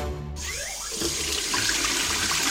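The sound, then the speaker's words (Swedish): A tap is turned on and water gushes steadily into a sink, a broad hissing splash that builds slightly in loudness and runs continuously, with no voices. “Vatten finns nästan överallt. I havet. I regnet. I kranen.”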